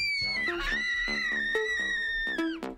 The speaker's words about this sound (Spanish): Y lo siento por vuestros tímpanos, pero llegado a este punto tenía que recurrir a este grito, que era la única manera que se me ocurría a mí de simular el emoticono, este de la carita.